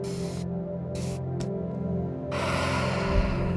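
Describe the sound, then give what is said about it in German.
Breathy airflow with short soft puffs, then a longer, steady rush of breath toward the end, like a deep breath drawn in and slowly let out during a guided relaxation exercise. No talking. “Dann atmen wir nochmal tief durch.”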